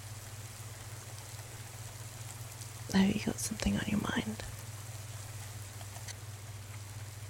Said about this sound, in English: Yeah, no, it's raining. Raining woke me up. The rain did not wake you up. You would sleep through a thunderstorm.